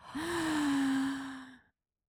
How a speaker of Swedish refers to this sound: Ja, ska vi ta ett djupt andetag tillsammans? Ja, ända ner från magen. Vi räknar först så att de liksom kan ladda upp.